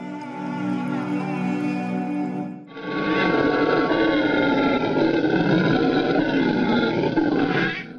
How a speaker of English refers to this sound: For now, let us turn our attention to another monkey, this time in Mesoamerica, the howler monkey.